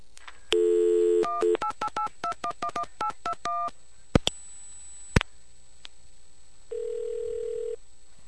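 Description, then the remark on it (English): A payphone's dial tone gives way to a quick, even run of about ten touch-tone beeps as SBC payphone repair is dialed, then a couple of sharp clicks and a final steady tone, all clear with no voices. “Let's call SBC payphone repair.”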